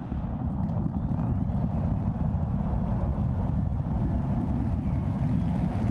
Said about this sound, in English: SpaceX launching its massive Starship rocket into space.